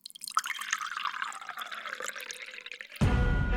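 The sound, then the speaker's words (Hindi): A milkman pours milk steadily into a container left outside a house, its gurgling tone sinking lower as the vessel fills, before a sudden louder, broader splash or rush takes over for the last half second. “बाहर ही रखा है बर्तन, उसमें डालकर चला जा।”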